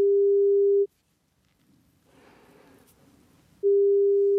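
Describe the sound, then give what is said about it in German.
A steady electronic phone ringing tone sounds for nearly a second, pauses through a few seconds of faint rustling noise, then rings again, loud, with no one answering; a call placed to a man's mobile phone number. “Wir haben seine Handynummer rausgefunden und vor ein paar Wochen versucht, ihn anzurufen.”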